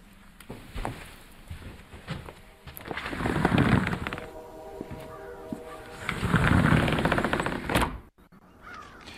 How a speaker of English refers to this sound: Well, we hear the train going off into the distance.